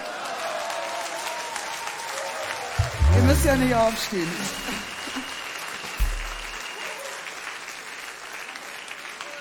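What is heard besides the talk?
audience applause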